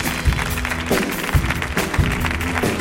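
A crowd applauds steadily, a dense wash of clapping filling the space, with a few louder thumps and faint voices mixed in beneath the sustained clatter.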